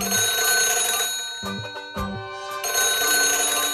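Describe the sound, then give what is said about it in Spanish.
A telephone rings loudly, its bright electronic trill repeating in bursts with brief gaps between, with no voices over it. “El teléfono, la gripe, el lumbago.”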